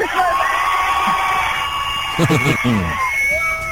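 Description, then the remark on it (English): A busy festival crowd at Glastonbury roars with sustained cheering, high whoops and shouts rising above a dense wash of voices, with a few louder bursts of yelling near the end. “there are just these cheers, random cheers going up all over the place”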